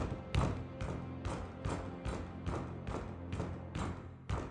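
Steady, repeated knocking on a door, about ten firm raps at an even, quick pace, fairly loud with a hollow wooden thud and no voices.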